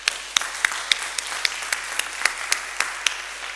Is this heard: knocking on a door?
no